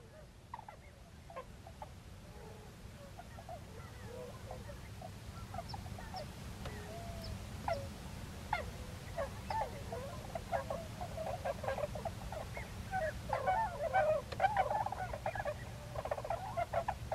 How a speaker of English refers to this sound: Trina has found a tundra swan, so let's hear the tundra swan